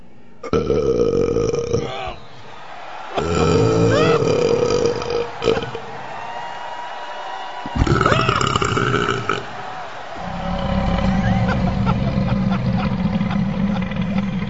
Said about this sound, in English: I feel better. We can proclaim you... I feel much better. ...the winner of the burping contest.